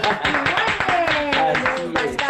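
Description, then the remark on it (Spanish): A crowd claps in applause for the parents listening, a dense, irregular burst of sharp slaps that runs steadily throughout, with a voice speaking over the applause. “Un aplauso para todos ustedes también.”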